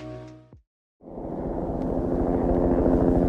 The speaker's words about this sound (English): We're back in the helicopter with polar bear researchers